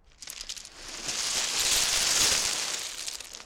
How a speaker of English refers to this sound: These are some sounds from a cold February day on Bembridge Beach on the Isle of Wight. This is a recording, Bembridge Beach, windy day, right by the seaside, right by the shore, to get some wave noise. Rock avalanche sound.